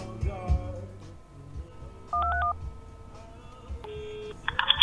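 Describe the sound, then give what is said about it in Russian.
A phone dials out: a short cluster of bright, steady keypad tones, then a few more electronic beeps, heard over low background hum and faint music. “Да сейчас я ему дозвон пущу тогда.”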